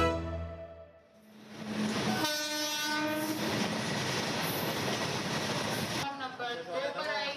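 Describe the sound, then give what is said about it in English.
A train rolls past on the railway tracks that lead to the Old Delhi Railway Station, its loud steady rumble and rattle filling the scene, with blaring horn tones at the start. Faint voices come through as it finishes. “Here, along the railway tracks that lead to the Old Delhi Railway Station, children are collecting plastic bottles and other things that have been thrown out of train windows.”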